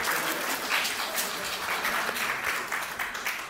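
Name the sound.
round of applause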